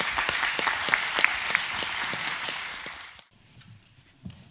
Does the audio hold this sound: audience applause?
yes